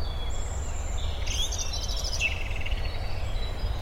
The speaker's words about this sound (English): I don't know if you can pick up on any of these beautiful bird sounds everywhere.